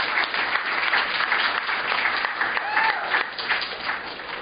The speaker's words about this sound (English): Thank you for being here to this, the Herald Journal, Utah Public Radio, Logan mayoral debate. Please, let's give our three candidates a round of applause for taking the time to be here tonight.